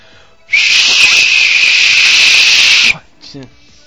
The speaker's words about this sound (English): You spit at me through the whistle. That's horrible. Because it's a Clicker Liquor Pop with...